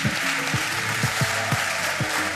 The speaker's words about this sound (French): Applaudissez-le, s'il vous plaît.